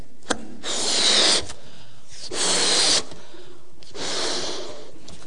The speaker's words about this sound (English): I've got a balloon. Okay, so there are two balloons up at the front now. I'm going to blow this balloon up.